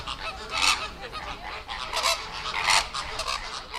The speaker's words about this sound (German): Flamingos. Haben wir vorher ja schon drüber gesprochen. Klingt ein bisschen ähnlich wie Affen, ist mir gerade aufgefallen, wie die Affen fast. Aber gut, klar, es waren Flamingos